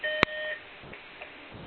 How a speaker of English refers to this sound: Sorry, that's my husband's alarm. It'll go off in a minute.